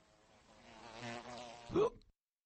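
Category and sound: insect, fly buzzing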